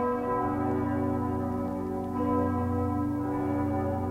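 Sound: church bells ringing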